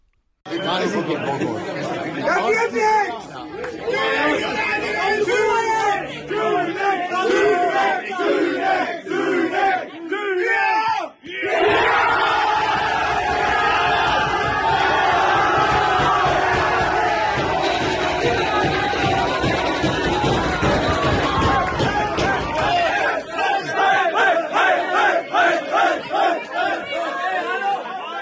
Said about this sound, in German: Der entscheidende Elfmeter wurde pariert und der Jubel war groß.